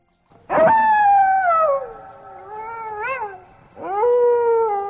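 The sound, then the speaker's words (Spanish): A wolf howls loudly, a long wavering cry that slides downward, then a brief pause before a second howl begins. No one speaks. “Los lobos aullan. Esto es un aullido.”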